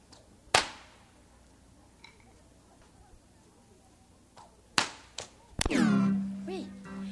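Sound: whip cracking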